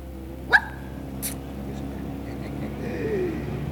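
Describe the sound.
A dog gives one sharp, loud bark, followed moments later by a softer second yelp, with a low murmur of voices and background hum underneath.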